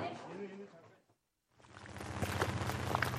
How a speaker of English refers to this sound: Day two is miserable with rain.